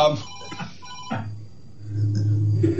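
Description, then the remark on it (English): A telephone rings in short, repeated electronic bursts with brief gaps between them, over a low background hum and faint murmuring. “Excuse me, I got a phone call.”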